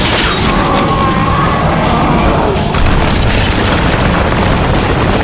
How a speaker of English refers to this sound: Then it slammed down into the sand, disappearing within seconds beneath the surface, sending out clouds of dust in all directions from the explosive blast of its descent.